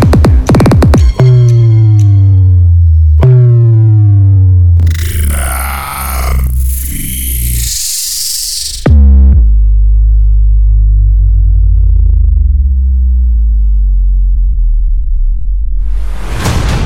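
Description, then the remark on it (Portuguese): Loud, deep bass test tones from Caixas Pancadão do Jeff speaker boxes during an equipment test thump and drone, with sweeping low pitches and a rough, buzzing noise burst in the middle, then a sustained low rumble that holds to the end. “Agora, sintam a pancada dos graves.”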